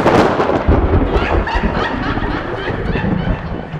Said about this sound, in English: Cue lightning strike.